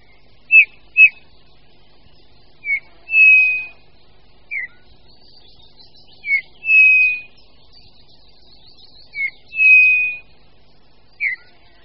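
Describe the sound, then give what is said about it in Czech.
A Eurasian bullfinch gives soft, piping whistled calls, short clipped notes alternating with longer mournful ones in a loose repeating pattern, clear, with no talking. “Hýl je u nás stále poměrně běžným ptákem, jehož početnost nedoznala, na rozdíl od mnoha jiných pěvců, ani v posledních desetiletích žádného výrazného poklesu.”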